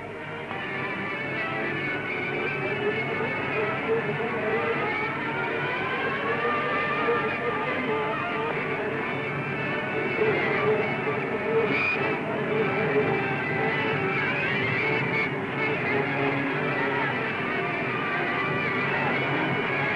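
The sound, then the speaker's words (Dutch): A dense, steady din of an Amsterdam funfair crowded with 8,000 young people on carousels, bumper cars and swing rides, with whirring machinery and a continuous droning roar holding at one loud level, plus a few brief sharper accents. “8000 jonge Amsterdammers bevolkten de zweet- en draaimolens, de autoscooter, de luchtschommels, ja wat al niet.”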